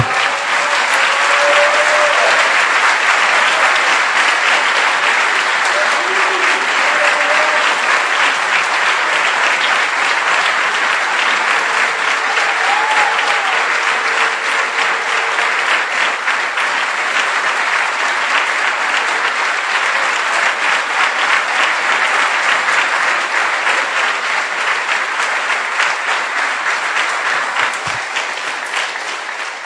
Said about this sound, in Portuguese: Vamos aplaudir a Jesus de novo.